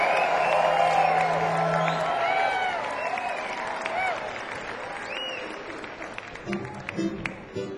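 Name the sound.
audience applause and cheering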